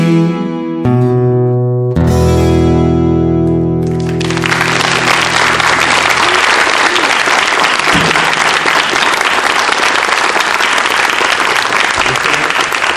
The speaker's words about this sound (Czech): Teď jste slyšel potleska, ten nebyl vynucený.